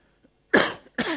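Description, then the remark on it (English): Two harsh coughs in quick succession from a speaker who is a little sick, the first louder and longer, the second following right after, with no talking. “I'm sorry, I'm a little bit sick, so I'm going to cough a little bit during the session.”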